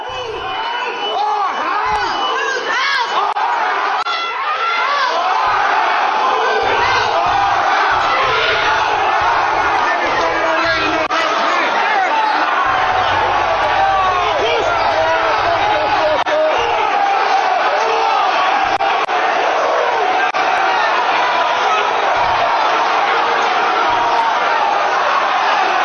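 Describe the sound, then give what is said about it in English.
A large, angry crowd shouts and yells continuously as people walk in through doors, many voices overlapping into a loud, agitated roar that stays dense for the whole stretch, with occasional louder individual cries rising above it. “Bunch of people shouting. They're shouting, yeah.”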